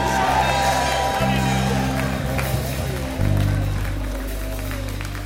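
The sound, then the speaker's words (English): A church audience raises their hands and shouts "a new day", cheering loudly over a steady, sustained organ or keyboard chord, with scattered clapping mixed into the continuous roar of voices. “Raise your hands and shout, a new day.”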